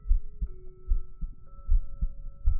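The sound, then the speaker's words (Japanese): A steady heartbeat thumps in deep, low pulses, roughly two beats per second, over a faint sustained electronic hum with soft tonal blips. “ドキドキしとった。”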